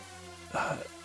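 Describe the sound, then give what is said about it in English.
A single short, throaty belch of about a third of a second, low-pitched and rumbling, rising out of a quiet background and fading quickly. “Excuse me, I belched.”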